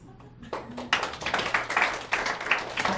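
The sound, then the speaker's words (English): A crowd at Fun Zone breaks into applause for the host's wife, a dense, steady patter of many hands clapping that starts quietly and swells to a full, lively round lasting a few seconds. “And how about a round of applause for my beautiful wife,”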